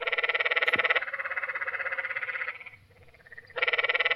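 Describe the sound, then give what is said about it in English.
Canyon tree frogs call at night in loud, buzzing, rapidly pulsed trills. The chorus overlaps steadily, dips briefly near the end, then one frog starts up again. “I love the sound of the canyon tree frogs at night and the drainages that sound like sheep.”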